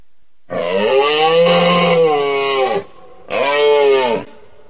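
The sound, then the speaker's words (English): Two deep, drawn-out bellowing grunting calls from a moose, the first long and sustained, the second shorter after a brief pause, loud with no talking. “The moose, who makes an appearance as this week's creature feature.”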